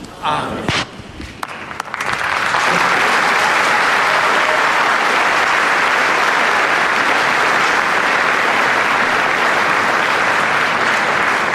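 A huge crowd of pilgrims meeting Pope Francis bursts into sustained applause, starting with a few scattered claps before swelling within two seconds into a loud, dense, continuous roar of clapping that holds steady to the end.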